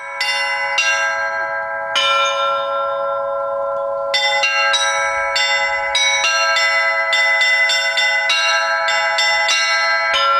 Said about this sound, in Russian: В ознаменовании открытия звонницы прозвучал праздничный перезвон во все колокола.